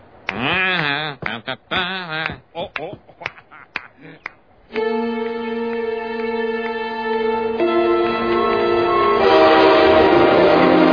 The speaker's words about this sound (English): Where's this train headed?